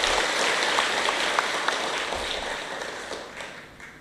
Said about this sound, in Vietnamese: Kính thưa các vị phát tâm hiến tạng lần thứ bảy tại Chùa Giác Ngộ đêm nay, xin tất cả dâng cao tràng pháo tay để tán dương chung.